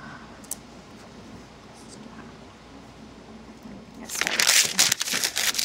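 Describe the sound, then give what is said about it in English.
After a few seconds of quiet background noise, scratchy rustling of someone writing in cursive on paper starts up and continues in rapid bursts to the end. “Why am I writing in cursive?”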